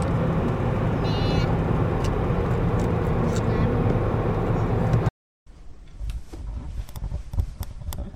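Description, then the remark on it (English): Steady low rumble of road noise inside a moving car in Ohio, loud and continuous for about five seconds, then a brief silent cut before quieter cabin noise resumes. “I'm recording this in my moving car in Ohio, but it's today.”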